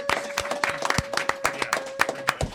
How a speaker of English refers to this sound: Big round of applause for our contestant, ladies and gentlemen.